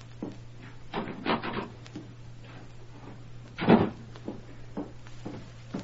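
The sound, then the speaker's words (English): The rear door of a ranch home is quietly opened and shut: a few muffled wooden clunks and creaks, then one firmer thud midway, all over a faint steady low hum with no talking. “let herself in the rear door of her ranch home, closed it softly behind her, then walked into the parlor where her mother and father were sitting.”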